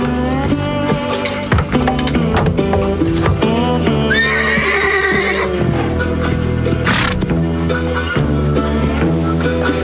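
A horse whinnies once in the middle, a shrill rising-and-falling neigh, over a dense, continuous background of rhythmic clopping and other busy sound.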